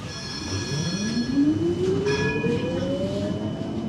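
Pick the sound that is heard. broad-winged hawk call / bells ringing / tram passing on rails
tram passing on rails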